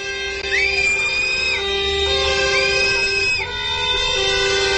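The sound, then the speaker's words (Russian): Protesters at a rally against a new government programme for monitoring working conditions whistle loudly: two long, shrill blasts that swoop upward and hold steady, rising above a constant rumble of crowd noise and shouting, with no clear words spoken. “Вот так, свистом и криками, митингующие выразили свое отношение к новой государственной программе мониторинга условий труда.”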